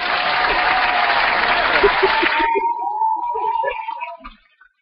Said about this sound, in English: Let me give you another hand clap.